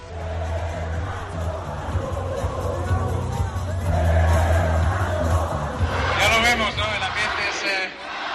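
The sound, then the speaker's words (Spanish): A large crowd in Mexico City chants "Magic, Magic" in a loud, continuous roar over a low rumble, with a swelling chorus of raised voices near the end, while Fernando Alonso speaks within the din. “Y este es Fernando Alonso hablando entre gritos de Magic, Magic.”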